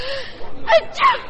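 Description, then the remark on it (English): A single sneeze with no talking: a quick, breathy intake followed by a sharper, noisy burst about a third of a second later, moderately loud over faint background hiss. “I only said Gesundheit.”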